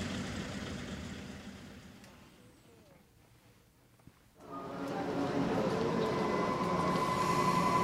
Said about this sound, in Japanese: まもなく1番線から横手行きの電車が発車いたします。